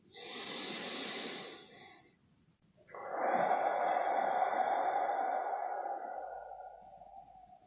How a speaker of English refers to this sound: Now bring our attention to taking three breaths in and out as a way of closing our time together.